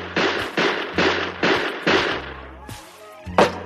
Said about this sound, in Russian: Изворотливый Бик вскинул руку и 12 выстрелами из пистолета продырявил пол чердака.